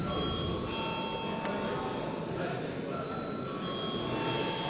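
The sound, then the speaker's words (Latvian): A continuous electric voting bell rings steadily for several seconds in a parliament, called before a vote on granting urgency to a bill amending the lottery and gambling duty and tax law; its sustained metallic tone holds over faint murmur and background noise. “Paldies, lūdzu zvanu.”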